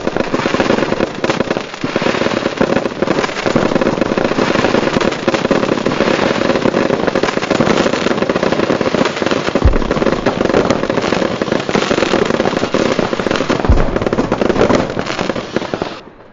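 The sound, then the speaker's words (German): A dense, continuous barrage of fireworks and firecrackers bangs and crackles inside a boathouse, with sharp explosions layered over a constant roar and hiss of rockets shrieking through the room, loud throughout with no voices. “Böller explodierten, Kracher detonierten, Raketen schossen kreischend durch den Raum.”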